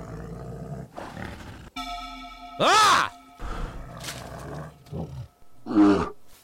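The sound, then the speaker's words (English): An agitated bear, clawing the ground before charging, gives a series of loud, harsh roars and growls in uneven bursts, some rising and falling in pitch, with a brief human shout among them. “The bear seemed even more agitated.”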